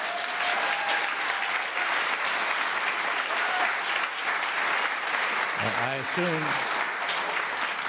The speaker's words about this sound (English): I assume those of you who are not applauding are on Wall Street. Okay, just what I'm assuming.